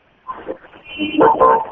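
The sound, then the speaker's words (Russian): Car horns honk on a busy street in the centre of Sukhumi, Abkhazia, on presidential election day, with a murmur of traffic building into two loud, blaring blasts toward the end. “Ездят машины, сигналят, скрипят шинами.”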